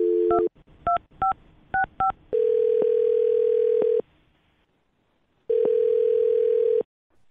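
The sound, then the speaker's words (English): A quick run of touch-tone dialing beeps as a phone number is dialed for a call on the radio show Brooke and Jubal in the Morning, then a steady phone tone sounding twice in long bursts separated by a short silence. Clear, with no voices. “Well, I'm going to dial this phone up right now and see if we can figure it out for you, okay?”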